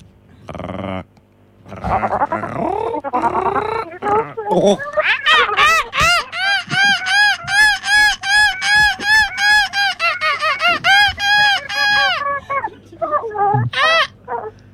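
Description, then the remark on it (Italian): A member of the Italian national seagull-cry team, third at the European championship, imitates a seagull's cry live on Radio Blackout, opening with a few rising squawks, then a long run of rapid, loud, rhythmic yelping calls, ending in a couple of short cries. “siamo, signore e signore, ascoltatrici, ascoltatroci, ascoltatruci di Radio Blackout, ecco a voi la nazionale italiana di grido del gabbiano.”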